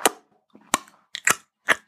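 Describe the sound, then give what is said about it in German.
A voice imitates a wet squelching smack, making a few sharp mouth pops and clicks in an uneven rhythm, with short gaps of quiet between them. “Und dann macht es ein schmatzendes Geräusch.”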